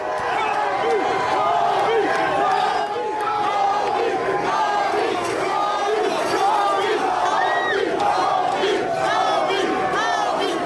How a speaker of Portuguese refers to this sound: Vamos ver a torcida do Lakers homenageando o Kobe Bryant nas ruas.